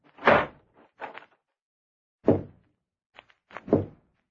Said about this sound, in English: were you knocking at this door?